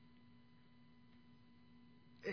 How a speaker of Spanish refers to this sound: En este silencio solo se escucha el ronroneo del aire acondicionado y el ronroneo de los ventiladores.